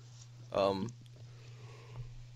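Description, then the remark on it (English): A person lets out a single loud, voiced yawn lasting under half a second, its tone sliding downward, followed by quiet with a steady low hum in the background. “Dude, stop yawning,”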